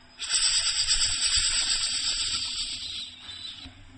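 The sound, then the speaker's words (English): A steady, breathy snake hiss holds for a few seconds, loud, fading slightly near the end with no voices around it. “And then again, Narada Muni looked down, and he saw snake, and he said, "Oh, Kailash?”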